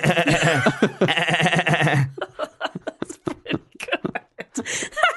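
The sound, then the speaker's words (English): A person's voice mimics a machine gun, opening with a wavering, buzzy sustained tone that shifts into a rapid string of sharp staccato bursts, loud. “I reckon when I was a kid, I could have done a sweet machine gun noise.”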